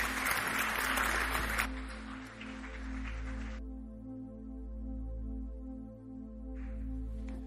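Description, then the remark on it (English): A church audience claps as a praise offering to the Lord after a prayer, a dense burst of applause that thins out and stops after a few seconds, while a steady sustained keyboard chord hums underneath and carries on alone. “And let's give the Lord a clap offering of praise.”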